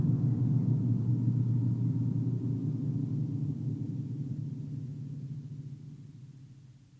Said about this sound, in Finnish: aggregaatin jylinä vain kuului, kuoleman kotelo kun sinkoutui päin valovuosi hautaa.